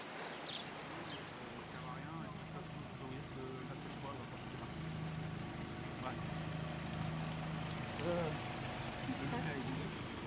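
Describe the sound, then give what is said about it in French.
Floodwater pours down in a steady cascade at a flooded Leclerc, a loud, continuous rushing roar that fills the scene, with a low droning hum and faint muffled voices underneath. “Le clair inondé, eh ben dis donc, là ça coule en cascade.”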